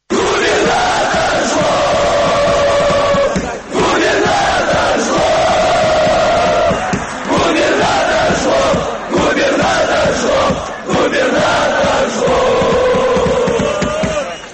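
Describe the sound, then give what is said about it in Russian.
A stadium crowd of Zenit football fans chants loudly in unison at a Saturday match, their sustained, tuneful phrases repeating in a steady rhythm with brief breaks between lines, a dense roar of voices throughout. “я хочу как раз сейчас показать, как восприняли вообще фанаты, болельщики «Зенита» на последнем матче в субботу в эту, как они восприняли эти слова и как это все выглядело.”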